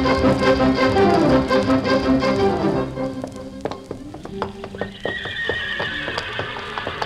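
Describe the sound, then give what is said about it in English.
A horse whinnies loudly with a long, wavering neigh in the paddock at Churchill Downs before the big race, followed by a steady series of hooves clip-clopping, with another high whinny over the hoofbeats near the end. “We're horses now, folks.”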